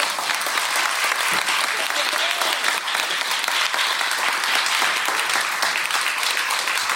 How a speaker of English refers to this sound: How we feeling? Let's clap, y'all.